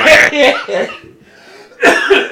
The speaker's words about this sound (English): Oh, there's that Rona cough.